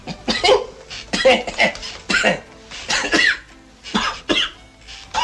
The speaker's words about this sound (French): Et dans Le Viager, c'est lui, Galabru, le pauvre docteur qui croit faire une bonne affaire en achetant la petite bicoque à Saint-Tropez d'un Michel Serrault qui va devenir centenaire. Toussez.